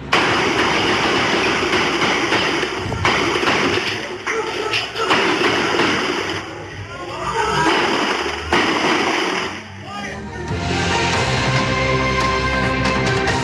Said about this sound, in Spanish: Ahí pudimos escuchar diferentes disparos provenientes desde un vehículo. Se desconoce la cantidad de armas que fueron utilizadas tras la balacera